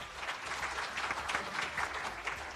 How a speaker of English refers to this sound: Thank you for coming, everyone. Let's give them a round of applause.